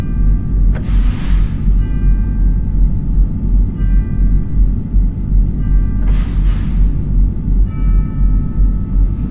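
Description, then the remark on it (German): Tubular bells imitate church bells, struck several times at uneven intervals, their bright ringing tones sustaining over a heavy, constant low rumble, with brief hissing bursts between strokes. “Jetzt hören wir noch Kirchenglocken durch Röhrenglocken dargestellt.”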